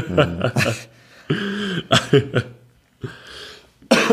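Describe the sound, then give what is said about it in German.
A run of harsh, throaty coughs comes in several loud bursts, some single and some clustered, with brief pauses between them and a rasping, partly voiced edge. “Boah, Alter, ich bring den Husten nicht weg.”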